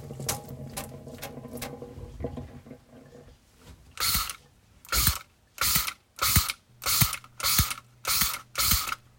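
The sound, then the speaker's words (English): A spray bottle of isopropyl alcohol, a disinfectant, spritzes repeatedly: several faint, quick sprays at first, then seven louder hissing bursts in a steady rhythm, each with a small click of the trigger. No one speaks. “You heard a person coughing due to a viral disease, hand washing, an important method of reducing viral transmission, and a spray bottle of isopropyl alcohol, an effective disinfectant”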